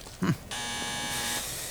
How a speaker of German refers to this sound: Ach, wieder die falsche Klingel.